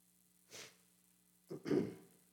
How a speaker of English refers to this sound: I got to remember to turn off my mic when I cough, don't I? That's kind of embarrassing.